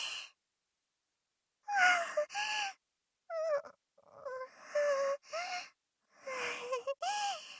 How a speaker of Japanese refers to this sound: うん、スーハーして落ち着くね。